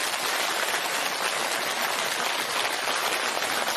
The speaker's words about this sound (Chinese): 尤其这么多法师啊也来啊来做大护持啊，打他们都是非常有高深的啊，他们都是学佛学很高深，就是高僧大德了，所以呢我们也鼓鼓掌，谢谢他们。